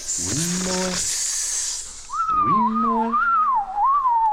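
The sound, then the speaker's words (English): A loud hiss with low, droning tones gives way to a whistled bird call, a single clear note that warbles up and down in pitch for about two seconds over a low hum. “And whatever that is. A bird.”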